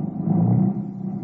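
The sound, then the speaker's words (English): A car's low engine rumble swells briefly, then settles into a steady hum as the vehicle pulls away, with no voices. “Then the car moved on.”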